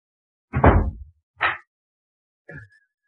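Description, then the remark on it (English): Three heavy, booming thuds against a door at uneven intervals, the first loudest and longest, the last weaker, with silence between blows and no voices. “If you wish to take me with you, you must first break down my door.”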